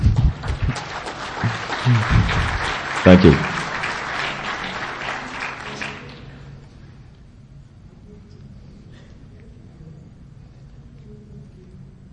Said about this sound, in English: You can applaud here.